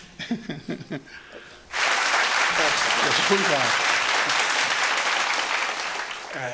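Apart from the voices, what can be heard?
audience applause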